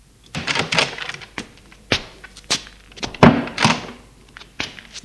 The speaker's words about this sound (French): La porte s'ouvre une seconde fois.